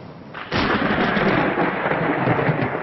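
A loud crack of thunder breaks in after a moment of quieter rain, then rolls on as a deep, sustained rumble with steady rainfall underneath and no voices.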